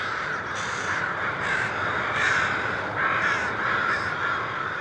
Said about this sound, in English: Imagine the ruckus when the first few thousand crows leave in the morning, about an hour before sunrise.